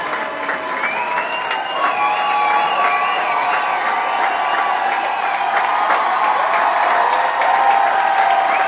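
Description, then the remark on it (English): A large concert crowd keeps up loud, steady applause mixed with cheers and shrill whistles, a dense roar of clapping that holds without pause, as the crowd calls for an encore at the end of the set after the house lights have come on. “But that's not stopping the crowd.”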